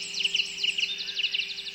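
Birdsong from a dawn chorus, with repeated bright chirps and trills overlapping in quick bursts, steady, with no voices.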